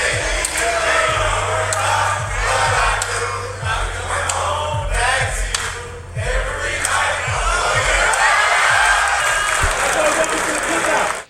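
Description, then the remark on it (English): A loud, sustained crowd roar with cheering and scattered clapping, dense and continuous for about eleven seconds, over a thumping low bass beat, as a rookie sings an early-2000s R&B slow jam in front of his teammates. “I mean, that is getting the crowd going.”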